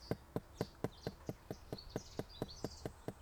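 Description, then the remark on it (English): A rain beetle calling, as it does before rain comes: a steady, evenly spaced run of about thirteen sharp clicking pulses, roughly four per second, with faint high chirping behind it and no talking. “That is a little beetle. It's a rain beetle. Before the rain comes, it will do this.”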